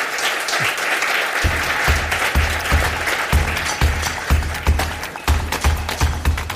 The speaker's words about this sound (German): Ich glaube, Sie haben jetzt aus erster Hand doch einiges erfahren heute Abend von deinem Wissen. Und ich glaube, er hat einen sehr herzlichen Applaus verdient.